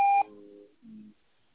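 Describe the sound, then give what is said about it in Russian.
A short, loud electronic beep of a voicemail system signalling recording has started, followed by a fainter, lower trailing tone before falling quiet. “Запись сообщений начнется после сигнала.”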